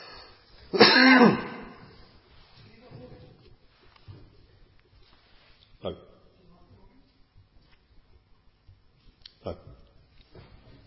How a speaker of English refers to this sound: Well, we move on tonight, if I can stop myself from coughing.